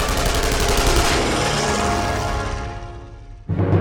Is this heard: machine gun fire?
yes